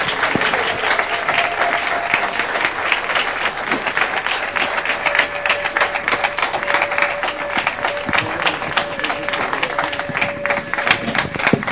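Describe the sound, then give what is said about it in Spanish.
Sustained applause from a sizeable audience for a theater group, dense and steady clapping filling the whole stretch, with a faint held tone running underneath and no one speaking over it. “Un aplauso fuerte para el grupo de teatro del Instituto Cultural Quetzalcóatl”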